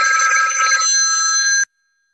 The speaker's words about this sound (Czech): Pardon, mě tady zvoní mobil, já to jenom vyřídím, jo?